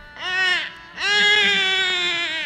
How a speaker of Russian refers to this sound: Лишь после того, как Васудева запер все двери и ворота, проснулись стражники и услышали плач новорожденного ребенка.